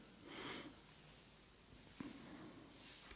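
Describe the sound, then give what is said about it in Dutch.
A short, breathy blast of someone blowing their nose into a special handkerchief with a little flower on it, fairly quiet, followed by a couple of faint sniffs and small rustles. No one speaks. “Ik snuit mijn neus.”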